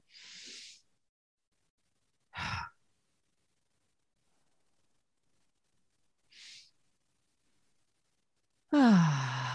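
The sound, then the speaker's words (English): Slow, exaggerated calming breathing, modeling re-regulating emotions: a few airy inhales and exhales spaced by long pauses, then a loud, drawn-out exhale that turns into a voiced sigh falling in pitch. “But what I would do is I would focus on my breathing. I wouldn't even talk. I would just go.”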